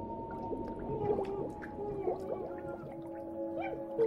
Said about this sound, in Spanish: Comenzaron los ruidos, el gorgoteo. Sonaba como si alguien estuviera luchando por respirar, luchando contra el agua que le llenaba los pulmones.